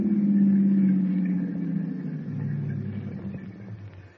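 A car engine hums steadily, its low rumble easing down as the vehicle slows and pulls over on a deserted stretch near the Red River Bridge, settling into a quieter idle, with no voices over it.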